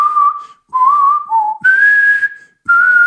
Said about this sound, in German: Aber kannst du die Melodie vom Terminator oder sowas pfeifen?